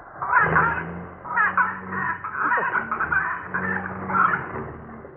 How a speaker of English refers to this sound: Fed it lead popcorn. Lead popcorn? Why, that poor pigeon must be 5 times as heavy now. Look, it's trying to fly away.